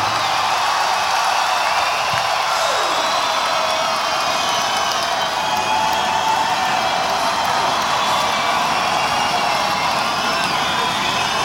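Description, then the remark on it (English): At the end of a live concert, a large audience claps and cheers for the keyboard player in a dense, steady roar that holds at full strength for over ten seconds, with scattered whoops rising above the wash of applause. “Give it up one time for Mr. Kerry Corbett on the keyboards here tonight. Come on, give it up.”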